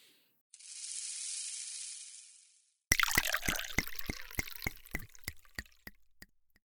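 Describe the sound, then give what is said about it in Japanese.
A steady rushing pour of a drink into a glass lasting a couple of seconds, then a crackling fizz with a series of sharp little pops as bubbles settle in the glass, slowly thinning out. “飲んでまずは落ち着きましょう。ね。え？コップを持ってくる、ですか？”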